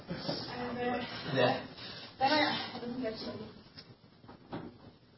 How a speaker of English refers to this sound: Can I close the door?